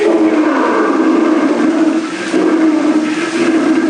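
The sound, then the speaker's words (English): An African lion's roar, a loud, rough, low-pitched growl that holds steady for several seconds, dipping briefly midway before swelling again. No voices are heard. “Off in the distance comes the fierce roar of an African lion.”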